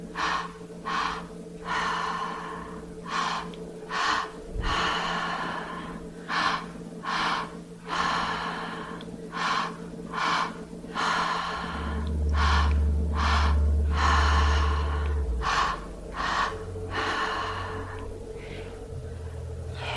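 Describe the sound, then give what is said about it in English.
Deep, rhythmic breaths cycle steadily in and out, fairly loud, each inhale and exhale repeating at a regular pace over a low steady hum, with no talking, as a person breathes on instruction during a guided breathing session. “Keep breathing.”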